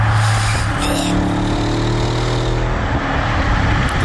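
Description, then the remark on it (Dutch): An Audi RS6 car engine revs loudly, its deep steady harmonics holding a throaty growl with brief surges, filling the whole stretch without any talking. “Lekker auto. Ja, lekker. Audi RS6.”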